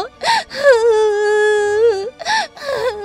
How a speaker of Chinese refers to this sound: 伯爵非常的生气，他靠近伊尼德，伸手甩他一个巴掌。伊尼德想到这里，痛苦地放声大哭。